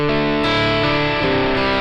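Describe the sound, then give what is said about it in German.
A loud, distorted electric guitar rings out in sustained chords, with a washy spring reverb placed before the amp, its mix turned up, smearing the notes together; playing alone, no voices. “Das ist jetzt auch Hall vorm Amp. Ich drehe mal den Mix ein bisschen auf, um es deutlicher zu machen.”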